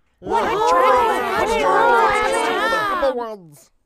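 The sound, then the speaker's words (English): A crowd of many overlapping voices bursts into loud shouts of praise and congratulations, sustained for about three seconds before quickly dying away. “The crowd erupted with shouts of praise and congratulations.”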